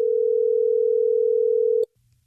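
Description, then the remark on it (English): A steady telephone dial tone of an outgoing call placed by the Hot 101.5 radio show in Tampa Bay hums loudly for nearly two seconds, then cuts off sharply with a click, leaving faint low rumble afterward. “Are you ready for us to try to get him on the phone?”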